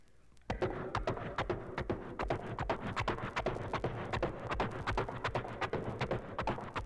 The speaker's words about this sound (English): Once he's on the back of the horse, he takes his hand and he reaches back and slaps the horse on the rear. And then he starts the horse out with just a simple walk.